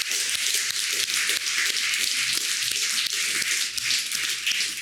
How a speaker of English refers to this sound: Let's give God the glory. Let's applaud the Lord for His work in our church.